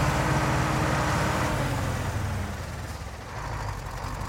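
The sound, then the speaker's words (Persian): A heavy diesel engine rumbles steadily with broad road noise inside a battered old Mercedes-Benz bus marked for NAJA military conscription, carrying about 41 people; the low drone eases slightly partway through before picking back up. “چشم به هم زدم، دیدم نشستم توی یه اتوبوس داغون و ترکیده از این بنزای قدیمی که انگار از جنگ برگشته بودن.”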